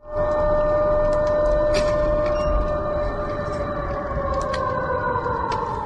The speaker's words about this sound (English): That was the air raid siren going off in Belgorod, a region of Russia which borders Ukraine.